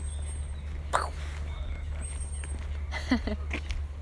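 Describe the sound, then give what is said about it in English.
Ducks quack in a few short, harsh bursts, one around the first second and a quick cluster later, over a steady low rumble. A person briefly speaks. “Listen to the ducks.”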